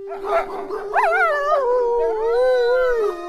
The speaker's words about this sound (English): Now, when the full moon shines, Kuakuatsu, the wolf, sings to her.